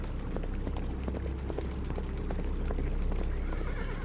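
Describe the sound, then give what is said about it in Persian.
Many hooves clatter in a dense, uneven rhythm, like a herd of horses on the move, with occasional neighs breaking through over a steady low rumble. “جون تو فکر میکردم خواب و خیالاتی هم شدم، چون هی صدای یه گله اسب رو میشنیدم، ولی تا چش کار میکرد چیزی نمیدیدیم والا، جز سیاهی و دشت و کوه و کمر و سنگ.”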